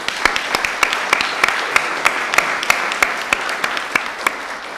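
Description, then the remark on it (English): A crowd applauds steadily, many hands clapping in a dense, continuous wash with sharper individual claps standing out, moderately loud and sustained throughout. “So again, we owe ourselves a great round of applause.”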